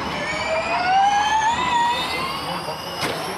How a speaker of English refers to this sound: That's not exactly how I remember Formula One. That sounds more like the old RC cars I used to play with as a kid. Yeah, it's not. It is Formula E. Uh-huh. It's an electric race car, and Formula E races are pretty intense.